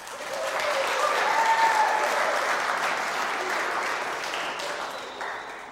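An audience breaks into steady, dense applause for the young people aged 16 to 25 who have stood up; it swells quickly, holds for several seconds, and tapers slightly toward the end, with no voices standing out.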